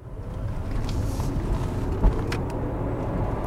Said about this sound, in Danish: så er den her bil meget, meget lydløs at køre i